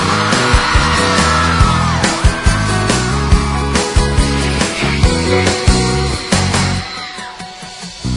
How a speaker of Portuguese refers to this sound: Cadê o gritinho da galera?